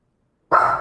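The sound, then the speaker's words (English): A single sharp dog bark bursts out after a moment of silence, loud, with a bright, ringing tone that lingers briefly. “You barking at, buddy?”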